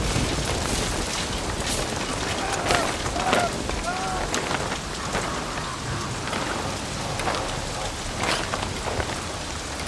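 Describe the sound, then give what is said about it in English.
Heavy, steady rain pours down in a dense, roaring hiss, with gusty swells and sharp splashes breaking through, as a violent storm out of the northeast engulfs a ship at sea and waves crash against the hull, without pause. “Dark, ominous clouds swirl overhead as a violent storm engulfs the ship.”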